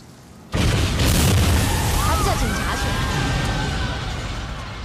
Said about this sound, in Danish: En eksplosion er helt oplagt et godt sted at starte en fortælling.